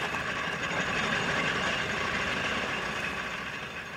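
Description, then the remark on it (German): An early automobile engine runs steadily, a continuous rough chugging rumble with a fine rapid pulse, easing off slightly toward the end. No one speaks. “Für alle gilt, die Geschwindigkeit ihrer Automobile ist wesentlich gekoppelt an das reibungslose Funktionieren des Zündfunkens im Explosionsraum der Motoren.”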